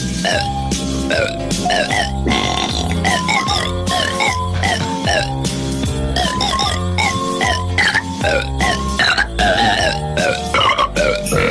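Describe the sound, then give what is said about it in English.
A string of loud, pitched burps rings out one after another to carry a Christmas classic tune, presented as Oprah Winfrey burping the Christmas classics, backed by steady instrumental music throughout. “Oprah Winfrey burps the Christmas classics.”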